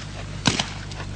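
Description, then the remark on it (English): Two rapid gunshots pop balloons, nearly merging into one sharp crack with a quick, softer second burst right after. A low, steady hum runs underneath, and no one speaks. “It still sounded like just one shot to me.”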